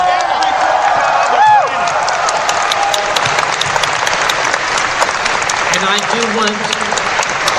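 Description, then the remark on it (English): A large audience at a furry convention applauds steadily, a dense wash of clapping that fills the whole stretch, with a brief whoop or whistle rising early on and scattered crowd voices mixed in. “Give a big round of applause for every Furry Con, not just Andrew.”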